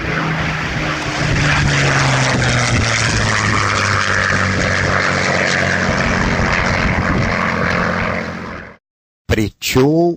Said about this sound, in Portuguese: E agora eu vou colocar novamente, para você sentir a diferença, o Spitfire com o motor Merlin.